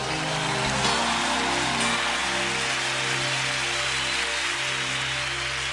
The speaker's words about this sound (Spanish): Levántale con tu aplauso.